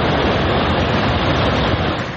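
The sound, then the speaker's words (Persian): A loud, steady roar of floodwater rushing across the flooded Ahvaz–Abadan road in Khuzestan province, Iran, after heavy rainfall, a dense continuous wash of churning water with no voices, easing slightly at the very end. “دست کمی از دریا نداره اینجا، صدای آب گوش کنید فقط.”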